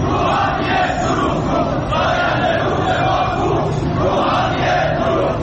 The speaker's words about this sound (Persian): سال اعتراض‌های شهروندان به بی آبی و مدیریت نامناسب آب و انتقال آب از استانی به استان دیگر، از خوزستان گرفته تا فارس و اصفهان، با کشاورزانی که در اعتراض به انتقال آب زاینده رودشان به یزد دست از اعتراض و تجمع و شعار بر نداشتند.